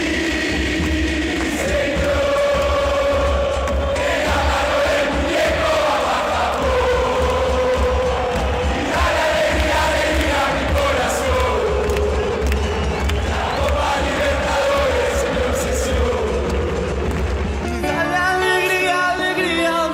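A huge crowd of River fans sings their anthem together, a loud, sustained melodic chant in unison that carries on steadily before cutting off abruptly near the end.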